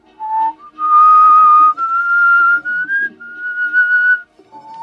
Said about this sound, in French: C'est pas évident à siffler. C'est long.